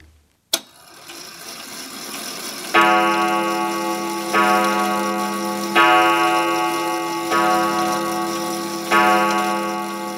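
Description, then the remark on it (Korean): A pendulum striking clock, which chimes on the hour as many times as the hour and once every half hour, strikes five deep, resonant chimes at a slow, even pace, each one ringing out and fading beneath the next, with a soft mechanical tick running in the background. “네, 4시간 정각이 되면 댕댕 울리던 괴종시계입니다.”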